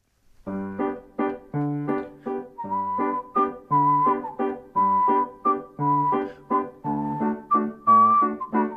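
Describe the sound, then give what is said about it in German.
A melody is whistled in a bouncy waltz rhythm over a steady oom-pah-pah backing of plucked chords, with regular three-beat pulses running through the whole passage at a moderate, even volume. “Welche berühmte Komposition wird jetzt hier als Walzer gepfiffen?”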